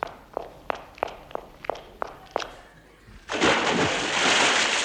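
Seven quick, evenly spaced footsteps thud across a hard surface, a brief pause, then a loud, broad splash as someone plunges into water, followed by sustained churning and sloshing.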